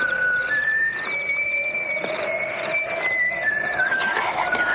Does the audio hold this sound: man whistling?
yes